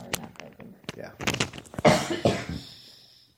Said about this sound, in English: Yeah. And I'm coughing. You go ahead.